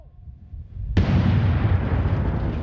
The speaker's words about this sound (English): Suddenly, the van explodes, spewing wheels, shattered glass, and metal over what seems to be a quarter of an acre.